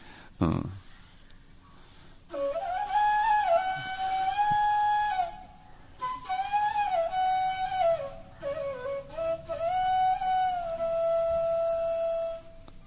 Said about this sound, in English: he goes before every door of every one of his friends and plays a very sweet and joyous flute melody. Can we hear such a joyous flute melody?